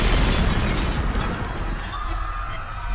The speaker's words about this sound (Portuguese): Um elástico estalou para trás e atingiu 6 cabeças de fósforos, provocando uma explosão.